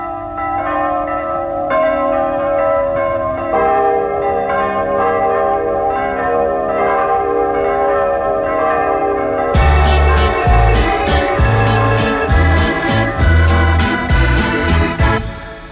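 Small church bells ring with repeated strikes and long, humming overtones; partway through, a louder, steadily rhythmic musical accompaniment with deep beats joins in beneath the chiming.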